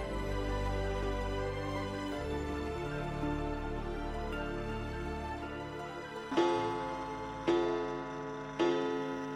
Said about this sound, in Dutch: De klok galmde 10 slagen.